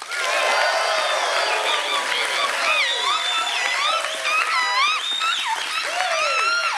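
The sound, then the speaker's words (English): A large live audience at Summit at Sea bursts into loud, sustained applause mixed with whoops, shouts and cheering voices, holding steady at full volume for several seconds with no one speaking over it. “And folks, I think you just clapped a little bit, but I really want you to be on the recording. So let's hear it. You got to be loud.”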